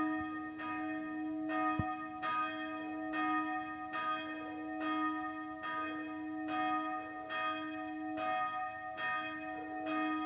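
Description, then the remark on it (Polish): A small church tower bell, the sygnaturka signal bell hanging in the church tower, rings alone in a steady, even rhythm, a dozen or so strikes whose bright tones overlap and hum on between blows. “A w 1947 roku sygnaturkę, to się ten dzwonek, co jest tam na wieży, chłopy odnaleźli, co zachowali przed tym zaborem niemieckim.”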